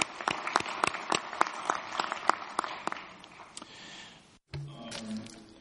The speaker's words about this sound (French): Encore une fois, je voudrais que nous affirmions cela en applaudissant.